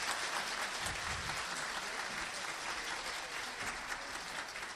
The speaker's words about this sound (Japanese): どうぞ大きな拍手をお送りください。